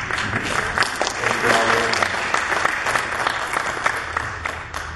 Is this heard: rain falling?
no